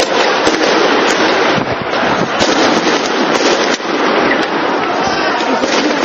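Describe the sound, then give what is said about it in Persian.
Rapid, irregular sharp bangs of gunfire and tear gas shots crackle over a dense, roaring noise bed, loud and continuous throughout with no clear pauses, in the streets of Bahrain during clashes between protesters and police. “در کوچه و خیابان‌های بحرین بیشتر از آنکه صدای رقص و آواز سنتی بحرینی‌ها شنیده شود، فریاد تظاهرکنندگان خشمگین، قرش تانک‌ها و صدای شلیک گلوله و گاز اشک‌آور شنیده می‌شود.”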